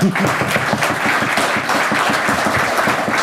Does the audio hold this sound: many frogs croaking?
no